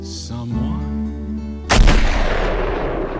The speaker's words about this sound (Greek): Και αυτός ο πυροβολισμός σε σκότωσε